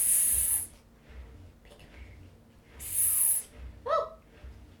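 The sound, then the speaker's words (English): A child makes two drawn-out hissing sounds like a snake, separated by a short pause, followed by a brief voiced squeak. Fairly loud, with quiet background noise between. “a snake. He was too scary.”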